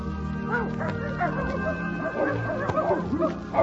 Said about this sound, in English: Like Professor Silverbush's trained dog. The quack quack? No, dog bow bow.